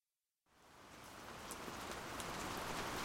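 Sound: rain falling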